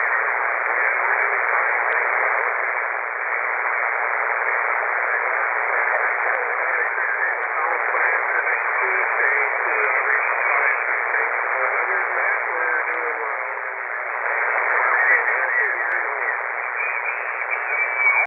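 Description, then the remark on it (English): A faint, rough ham radio transmission from the mountains of Oregon, buried in steady, tinny static, with a garbled voice barely emerging through the hiss for the whole stretch. “really, really light and really rough copy today.”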